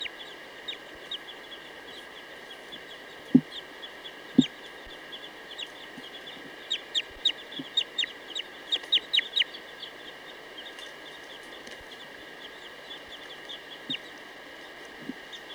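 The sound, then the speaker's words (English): Repeated short, high-pitched calls of a female bird perched low in a tree, recorded as bird 238: a quick rhythmic series in the middle, with a few sharper isolated chips earlier and later, over a steady hum of insects or background noise. “Good time for a test of bird 238.”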